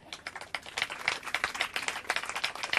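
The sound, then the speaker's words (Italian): An audience claps steadily, a dense patter of overlapping hand claps at moderate volume that keeps up throughout, with no voices over it, applauding a young assistant to the director who is called up to the front. “E lo farei venire qua perché merita un bel applauso.”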